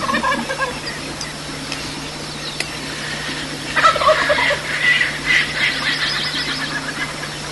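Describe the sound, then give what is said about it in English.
Wild birds, likely turkeys, calling outdoors at about 7,000 feet elevation within view of Mauna Kea, turkey-like gobbling bursts rising and falling in rapid, rattling clusters, moderately loud, with no one speaking over them. “There's some funny sounding birds.”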